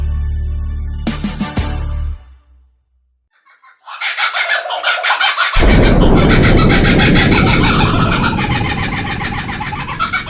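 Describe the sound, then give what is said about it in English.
After a short pause, a kookaburra bursts into its laughing call, a loud, raucous run of rapid cackles that swells in intensity and continues to the end. “Kookaburra laugh and laugh and sing, oh, sing, oh, sing, oh.”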